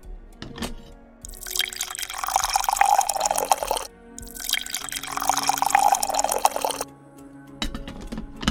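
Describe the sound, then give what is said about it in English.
Coffee is poured into two cups in a row, two steady splashing streams of a few seconds each with a short pause between, clear with no talking. “He got up to get himself another cup of coffee, and that was when Peter asked for one. Samuel poured both.”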